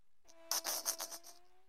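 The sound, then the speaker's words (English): A person makes a thin, whining buzz with their voice, imitating a mosquito: a steady nasal drone broken by several quick pulsing bursts, fairly loud, lasting under two seconds. “You sound like a mosquito.”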